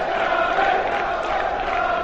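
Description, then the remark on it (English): A dense, steady roar of a large crowd at a football match, loud and continuous with no single voice standing out, like a packed stadium buzzing with noise. “So normally we get texting saying, what's the crowd? Well, today I'm hoping that somewhere in the region of about 3.5. Well, it's big and loud.”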